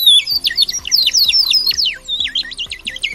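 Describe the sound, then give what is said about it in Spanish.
Bubbly, warbling water whistles, bird-shaped and filled with water, blown by small children at a ceramics fair during the San Pedro fiestas, trill continuously in high, bird-like chirps that rise and fall, with a soft, steady low thumping beat underneath. “de cocina, platos, cazuelas, hornos, figuras decorativas, donde los orgullosos ceramistas muestran su trabajo a los visitantes mientras los más pequeños riegan el ambiente con el sonido de los silbatos en forma de pajarillos que se rellenan de agua.”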